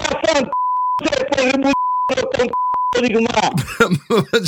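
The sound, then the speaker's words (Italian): Several flat, steady censor beeps cut into a stretch of talking, three of them in a row, each replacing a chunk of speech before the voices continue unbleeped. “Certo, qualche bip in quella sì, le è stato utile, anche un po' a vanvera, è stato bene metterlo.”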